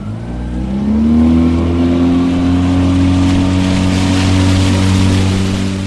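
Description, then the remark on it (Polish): The engine of a water tram boat sailing along the fortifications of Fort Winiary and the Warta valley drones steadily, a low rumbling hum with a harmonic that rises slightly as it revs up in the first second, then holds loud and even over a wash of noise. “Tramwajem wodnym płynąłem z Konradem Dąbrowskim.”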